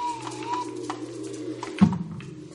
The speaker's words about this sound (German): Hier wuchsen die schönsten und prachtvollsten Blumen und die Vögel zwitscherten die wunderbarsten Melodien.